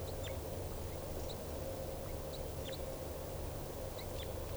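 Short, sharp bird alarm calls repeat every second or so, fairly faint, over a steady background rumble and hiss.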